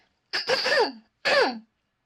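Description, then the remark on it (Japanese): Two forceful throat clearings in quick succession, the first longer and raspier, the second shorter, loud with brief silence between and no talking. “すいません、めっちゃ咳払い多い。”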